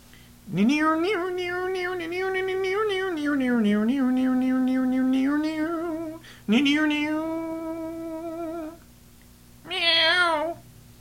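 A cat named Francis Xavier meows loudly and at length in drawn-out, wavering yowls, first a long one, then a second, then a short higher cry after a pause, with no talking.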